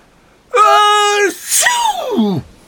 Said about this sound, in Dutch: Niesde Monstro. En daarbij proestte hij het hele stel met vlot en al naar buiten.